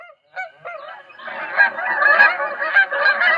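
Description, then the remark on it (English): A flock of geese honking: a few scattered calls at first, then a dense, continuous chorus of overlapping nasal honks, loud, with no voices. “A collision with a flock of geese is being blamed for the engine failure of the U.S. Airways Flight 1549 on January 15, 2009.”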